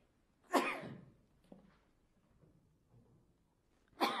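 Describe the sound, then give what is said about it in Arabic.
A single sharp sneeze bursts out, loud and abrupt, then fades into a quiet room with faint shuffling; another sudden noisy burst comes right at the end. “الحمد لله، يرحمك الله، يهديكم الله ويصلح بالكم.”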